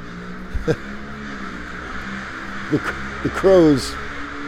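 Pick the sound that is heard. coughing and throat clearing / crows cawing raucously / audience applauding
crows cawing raucously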